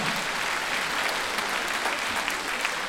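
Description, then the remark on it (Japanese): An audience claps steadily for three seconds for the singers on stage, a dense, even patter of many hands with crisp individual claps poking through, fairly loud and with no voices on top. “はい、ステージの皆さんにももう一度盛大な拍手を送りください。”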